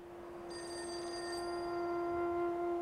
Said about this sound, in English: While her phone rings,